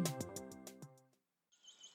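A short run of plucked musical notes fades out, then young golden eagles give a thin, high-pitched squealing call, brief, with no talking.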